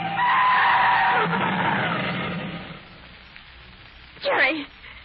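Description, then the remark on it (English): Car tires screech loudly for about two seconds as the car brakes hard when another car cuts in front of it, the squeal fading out, followed by a brief, sharp second screech near the end. “Look out, driver. A car just cut in front of us.”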